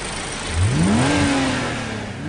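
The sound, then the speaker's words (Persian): An M635 CSI sports car engine revs up sharply, its pitch climbing and then holding high before easing slightly, with no talking. “M635 CSI باحالترین ماشین بزرگ را.”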